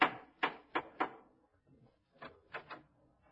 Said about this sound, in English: Well, now Gracie has rushed over to Herbert Marshall's house to inform him of his romantic future. She knocks at the door.